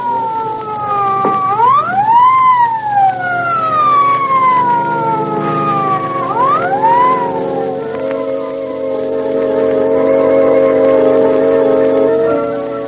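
An ambulance siren wails in two rising-and-falling sweeps, then settles into a steady, sustained tone. It sounds loud, with a low engine rumble beneath and no voices.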